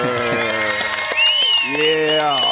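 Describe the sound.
A short burst of applause and cheering from the Cardinals' Big Red Rage crowd for player Budda Baker, loud, with shouting voices rising over the clapping for a couple of seconds.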